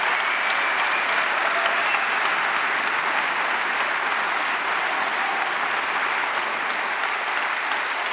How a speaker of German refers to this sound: Ist es immer so bei dir, dass der Applaus immer länger wird, je älter du bist? Nee, aber es ist einfach sehr herzlich. Es hat sehr viel Wärme und Zuwendung und das ist einfach ein schöner Applaus.